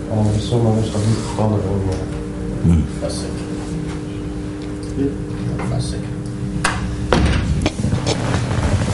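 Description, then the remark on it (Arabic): A door is pushed shut with a dull wooden thud, preceded by scraping and rubbing noises, while a voice murmurs faintly in the background. “بتقفل الباب ده عشان لو جه الشيخ اللي في الأوضة الثانية ما نشوشرش عليه.”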